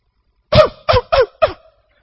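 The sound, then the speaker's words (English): A person imitates the croup cough of a four-year-old girl at 2 a.m.: four short, harsh barking bursts in quick succession, hoarse and seal-like, each rising then dropping in pitch, loud against silence. “It's a cough that turns into a bark, sounds like a seal.”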